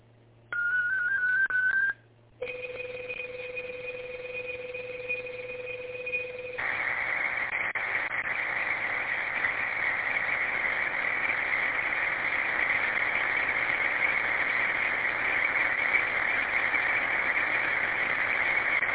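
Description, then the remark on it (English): Amateur radio digital data transmission of a 35-second message sent over a radio net: a brief tone, then a pair of steady whistling tones, followed by a long, dense warbling hiss of data filling the narrow radio band, loud and continuous with no voices. “This one is 35 seconds, just a little reminder about Project Night tomorrow and what we're doing. Stand by for digital traffic.”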